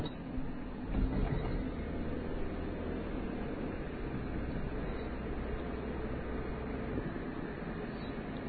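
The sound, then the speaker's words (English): A vehicle rolls over railroad tracks in a town, a steady rumble of road noise with a brief heavier jolt near the start, then continuing evenly. No one speaks. “Crossing the train tracks now.”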